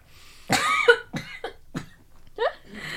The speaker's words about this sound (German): Ja, ich muss mal schnell was trinken. So vorsorglich meine ich. Präventiv husten sozusagen.